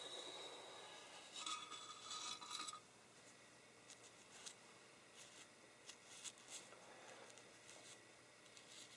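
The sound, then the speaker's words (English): Soft bristly brushing sweeps inside an opened typewriter, a denser run of scratchy strokes at first, then lighter intermittent swishes. No one speaks, and the sound stays quiet throughout. “And then we'll open up the typewriter and brush the inside.”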